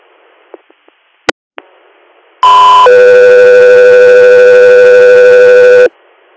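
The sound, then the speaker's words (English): A few faint clicks and a sharp pop, then a loud radio dispatch paging alert: a brief higher tone stepping down to a long, steady lower tone that cuts off abruptly. “Scott 3 Air, standby for tones.”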